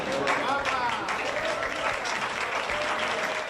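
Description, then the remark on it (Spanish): Steady, dense applause from a crowd welcoming Carolina Marín on her arrival from Paris, a continuous crackle of many hands clapping at even loudness, with cheers and voices mixed in underneath. “Así, entre aplausos, fue recibida ayer a su llegada desde París Carolina Marín.”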